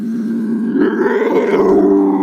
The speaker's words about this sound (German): Ja, Natur ist eben nicht nur Bachgeplätscher und Vogelgezwitscher. Das ist halt auch mal so ein Geräusch. Viel Spaß mit den Luchsen.